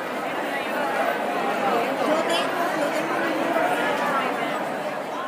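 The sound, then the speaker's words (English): Dense crowd chatter outside a theater with big lights in Havana, Cuba, on a Friday night before a dance concert: a steady hubbub of many overlapping voices with no single speaker standing out, holding an even, moderately loud level throughout. “When we get out of the car, we walk towards a theater with big lights and a huge crowd.”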